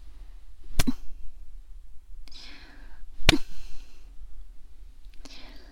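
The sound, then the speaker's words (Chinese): Two sharp slaps land a few seconds apart, like a face being struck with a stockinged foot. Each is followed by soft, breathy exhaling. “被主人丝袜脚扇耳光爽不爽啊？”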